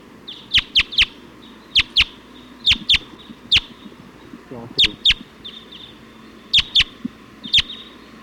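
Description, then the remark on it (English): A flock of about 20 wild birds, perched at the top of a pine tree at point 279, calls in repeated sharp, high chirps, often in quick pairs or triplets, over a soft low background rumble with a faint murmur near the middle. “Point at 279 as wild birds come in.”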